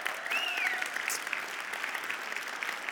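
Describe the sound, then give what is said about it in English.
A crowd claps in a steady, dense round of applause lasting the whole time, with a few high whistles cutting through the patter, applauding the tech team who set up the event. “Can you guys give them all a big round of applause?”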